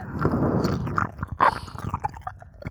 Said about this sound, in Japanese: ほーら、私の舌が勇者様の耳穴を這いずり回ってますよ。サキュバスのいやらしい舌遣い、よーく感じて。